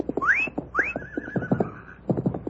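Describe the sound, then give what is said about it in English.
The horse Sunshine lets out two shrill, rising whinnies, the second trailing off into a quavering tone, while quick hoofbeats pound underneath as it turns and comes back. “Sunshine has turned. He's coming back.”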